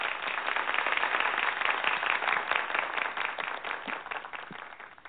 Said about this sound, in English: We have lots of sound effects. Let's say we have this applause. And we have a little bitty applause. Just something.